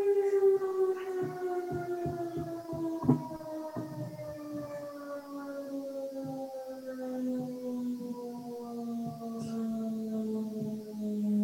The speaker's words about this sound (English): We can deal with getting rid of that buzzer.